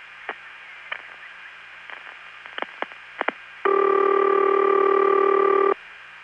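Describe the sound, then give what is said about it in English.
A scattering of faint clicks and ticks on a quiet phone line, followed by a loud, steady ringback tone that holds for about two seconds and then cuts off. “By contrast, on that first call where we reached the phone line, there was more stuff that had to happen before the ring started, and that tick right before the ring is not as loud.”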